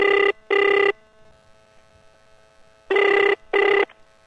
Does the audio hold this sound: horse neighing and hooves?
no